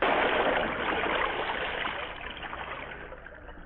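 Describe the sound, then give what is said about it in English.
A broken sword splashes into a swift stream, followed by a loud, steady rush of flowing water that gradually eases over a few seconds, with no voices. “Now fighting sword vanish forever in swift water.”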